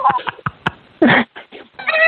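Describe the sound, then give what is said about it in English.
A person's voice imitates porg noises with a string of quick, clipped chirps, then a louder raspy squawk and a few shorter squeaks, ending in a sustained, wavering, mewing cry. “But no, you had to open your little sad face and start clapping out your little porg noises like this.”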